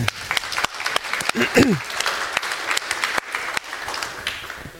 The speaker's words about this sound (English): I would like to know of you, who is for the first time here at FrostCon? Please raise your hand. Oh, wow. Many, many people. Big applause to you.